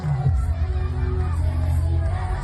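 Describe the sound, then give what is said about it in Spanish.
A large group of children cheering and clapping at a children's party with Jimeno celebrating the start of 2025 (children's pre-grapes), held at noon in the Plaza de España, a dense, steady, loud roar of many voices with no single voice standing out, sustained for the whole stretch. “¡Esas palmas!”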